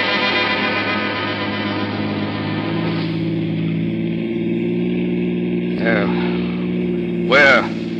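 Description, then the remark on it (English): An old jalopy car's engine chugs along steadily as it drives, in a continuous, loud, low rumble, with a couple of short, sharp squeaky bursts near the end. “We'll use my jalopy.”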